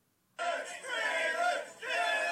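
A crowd chants "do it" in loud, rhythmic unison, voices roaring together in two sustained bursts with a brief dip between them, cheering a man about to jump and crush a table as part of a dare.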